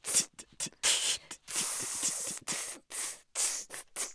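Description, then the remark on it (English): A voice beatboxes an inward open hi-hat, making breathy, sharp hissing bursts by breathing in, about eight of them in a loose, uneven rhythm, with no talking. “So you can use an open hi-hat sound, but breathe in.”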